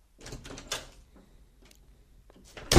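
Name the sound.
door opening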